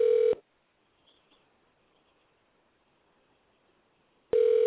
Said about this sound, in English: And we're dialing. And it's ringing. And it's ringing. Let's see if Shihan picks up.